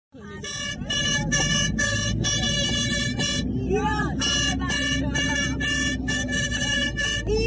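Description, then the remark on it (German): Plastic horns blare in loud, sustained bursts inside a minibus as a group of women fans ride together to the stadium for a match, several overlapping in a choppy rhythm, with voices and engine rumble underneath. “Mit Tröten ausgestattet fährt diese Gruppe Frauen gemeinsam zum Stadion.”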